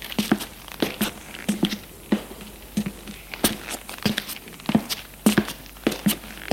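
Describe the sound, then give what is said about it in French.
Footsteps descend narrow, damp stone stairs under a vaulted ceiling in a steady, careful rhythm, taking care not to slip, each step a crisp scuffing tap roughly every half second, with soft grit and shuffle between them and no voices. “Ils descendent des escaliers en faisant attention de ne pas glisser.”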